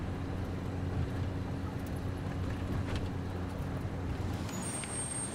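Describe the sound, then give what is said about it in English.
A steady low engine hum and road rumble from inside a moving car driven by a woman with a passenger, constant and moderately loud throughout, with a few faint clicks and a thin high tone near the end. “Later, Grace drives Henry in her car.”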